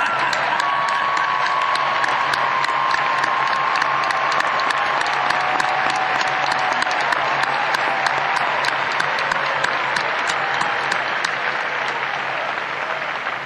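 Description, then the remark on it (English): A large crowd applauds mothers on Mother's Day, steady for the whole stretch, dense overlapping claps with a few cheers and whistles rising above, loud and sustained without a break. “Hey, you mothers! We want to clap you!”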